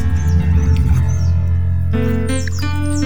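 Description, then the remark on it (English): High, quick bird chirps and tweets sound repeatedly over a steady, sustained musical drone, the calls clear, with no voices present. “The birds are singing.”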